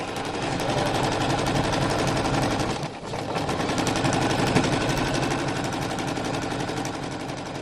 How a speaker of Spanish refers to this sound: esto que suena es uno de los grandes inventos de la historia de la humanidad, ¿eh? Una máquina de coser.